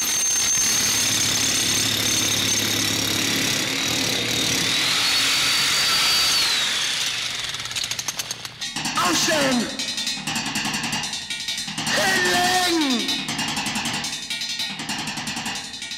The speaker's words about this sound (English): They made their music with anvils, sledgehammers, by breaking glass and banging lead pipes and sheet metal and, of course, power tools.